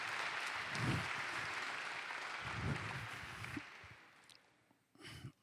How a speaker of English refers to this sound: Okay, let's give these two men a round of applause.